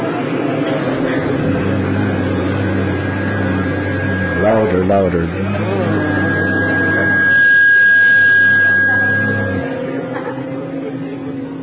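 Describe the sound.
A group of people hum and buzz together in imitation of bees, a steady low drone that swells louder partway through, with a brief spoken prompt over it.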